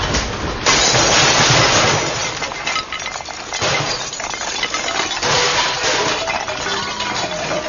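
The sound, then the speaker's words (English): A garage door rattles and rumbles open to get a lawnmower out, a loud, continuous metallic clatter that starts abruptly and carries on for several seconds, with no one speaking. “Sure, it's just over here in the garage. Let me get the door.”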